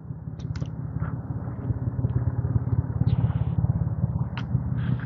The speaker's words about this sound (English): I hear cars, but I don't know. I guess it's that truck down there running.